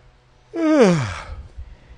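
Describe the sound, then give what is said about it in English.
A single big, drawn-out yawn, voiced and breathy, sliding downward in pitch over about a second, loud against a quiet background with faint low rumble. “Big yawn.”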